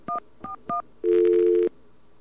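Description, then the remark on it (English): Three quick touch-tone beeps from a phone keypad as a number on the local 700 exchange is dialed, each a short two-note chirp, followed by a longer, steady, lower buzzing tone lasting about half a second. No one speaks. “You just dial 700, then 4141”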